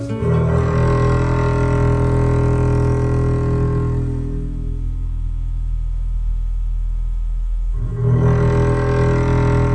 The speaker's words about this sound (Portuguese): Começa até com apito de navio.